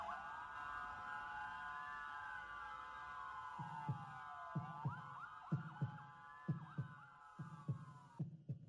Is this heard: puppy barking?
no